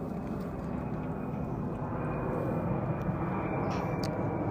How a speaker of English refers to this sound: Sorry, a lot of planes today.